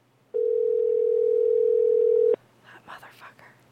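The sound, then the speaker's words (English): A phone call rings out on the line: one steady, loud ringback tone held for about two seconds, then cuts off as people start talking. “One thing about lesbians, they never pick up their phones.”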